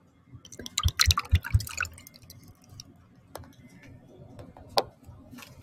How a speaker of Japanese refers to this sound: 氷を入れますね。ウイスキーを注ぎます。